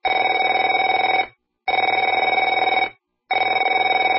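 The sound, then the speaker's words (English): A telephone rings in steady bursts, each about a second and a half long, separated by short silences, with a bright trilling bell tone that stays loud throughout. No one speaks. “Afraid to answer it?”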